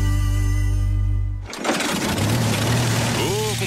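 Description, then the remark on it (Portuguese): A small engine idles with a steady low hum, then revs into a loud, rasping roar like a chainsaw or brush cutter running at full throttle; work tools being taken in for servicing and repair. “A encilhadeira, a motosserra, a roçadeira e no trator também.”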